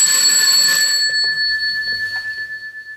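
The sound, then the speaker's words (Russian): A doorbell rings with one long, bright metallic tone that starts loud and slowly fades away over about three seconds, with no voices. “Разреши, звонят.”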